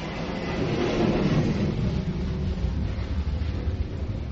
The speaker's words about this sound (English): No, we called the airbase and we said, please do not fly your planes over our church, but they didn't listen.